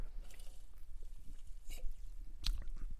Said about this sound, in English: I need to take a sip of my beverage du jour.